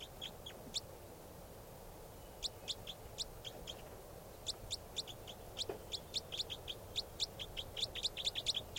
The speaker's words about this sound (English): That's the bird.